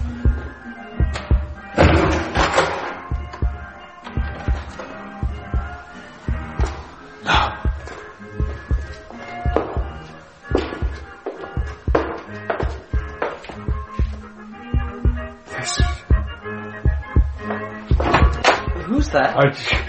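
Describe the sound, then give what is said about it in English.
Loud, heavy banging and thudding against a door, repeated irregular impacts throughout, some sharp slams and deeper booming thumps, with a dense, tense backdrop and faint voices underneath. “Are you behind this door?”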